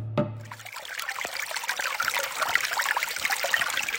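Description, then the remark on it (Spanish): Water trickles and babbles steadily, a continuous bright patter of small droplets and flowing liquid, briefly preceded by a low hum at the very start. “Escuchamos el silencio del agua que se va.”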